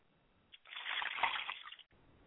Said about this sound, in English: Okay, we'd like to pour libation, first of all, to Oluduma-Re. We say Ashe. We'd like to pour libations, too. Our mother spirit, which is Yamanja, we say Ashe.